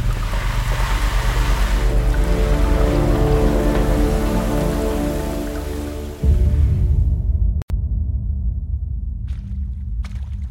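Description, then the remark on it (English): Steady, loud rain pours down with a dense hiss over a deep rumble, then the bright patter thins out partway through, leaving a lower, duller wash of sound; no one speaks. “It stopped raining.”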